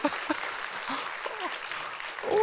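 An audience applauds in a steady, dense wash of clapping that holds for a couple of seconds and swells slightly at the end, with a few brief voices mixed in.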